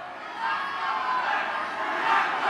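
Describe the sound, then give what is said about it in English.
A large crowd in a packed gymnasium in Philadelphia cheers and shouts at the vice president's last stop, a continuous, dense roar that stays loud throughout, swelling slightly near the end, with a reverberant wash. “At her last stop inside a packed gymnasium after making several appearances across Philadelphia”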